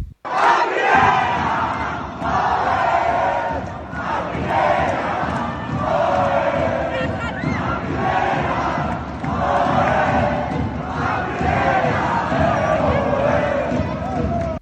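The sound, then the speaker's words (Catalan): A large crowd at the Pedrosa rink, celebrating a Castellar hockey club's win after a 50-minute match, roars and chants in loud, steady waves, rhythmic shouted chants rising and falling roughly every two seconds over a constant wash of cheering voices. “Crits, plors, abraçades, invasió de pista, càntics i felicitacions van envair el terratzo del Pedrosa després de 50 minuts agònics que marcaran la història futura d'un hoquei club castellà cridat a créixer encara més la pròxima temporada.”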